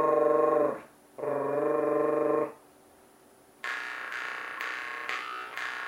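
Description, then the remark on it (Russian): A person growls in a low, buzzing tone while playing a jaw harp with an even strum, in groups of four beats: two sustained growls, then a brighter, rougher stretch pulsing in a steady beat, fairly loud, with no talking. “Давай рычать по квадратам. То есть 4 удара.”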